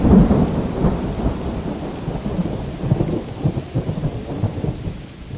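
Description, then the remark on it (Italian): A thunderstorm rages over a salt pan, with deep, rolling thunder rumbling continuously over a steady hiss of heavy rain, loud, with no voices present. “Il temporale.”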